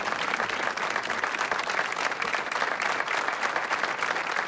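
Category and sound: crowd, applause sound effect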